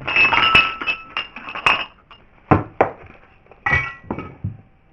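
Dishes being washed by hand by Roma women in Kosovo early in the morning to prepare the day's first meal, with clinking glass and cutlery, dull thunks of pots and plates set down, and splashing water in irregular bursts and pauses.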